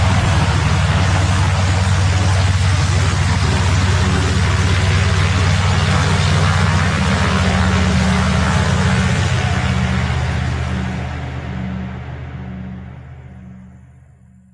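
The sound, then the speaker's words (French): A small Cessna airplane engine drones steadily and loudly, a low throbbing hum layered with a broad roar, holding constant before gradually fading over the last few seconds, on a flight from Canaima to Eldorado. No voices. “Ça, c'est un petit avion qu'on a pris il y a 2 jours, oui, hier matin encore, et un tout petit avion qui nous a emmené de Canaima à Eldorado.”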